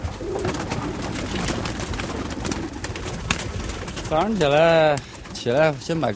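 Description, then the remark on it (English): Pigeons coo in two wavering, throaty bursts near the end. Before this come several seconds of scuffling and rustling as their keeper, in China, opens a small cage on the tin roof of his brick home in the morning and shoos the birds out. A faint murmur sounds in the background. “When I wake up every morning, the first thing I do is release my pigeons.”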